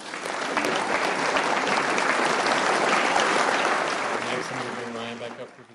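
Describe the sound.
An audience at a group meeting breaks into sustained applause for a speaker who has just finished, a dense wash of clapping that holds steady for several seconds before tapering off, with a voice starting to speak as it fades.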